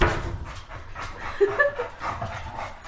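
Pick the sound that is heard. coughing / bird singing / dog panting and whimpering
dog panting and whimpering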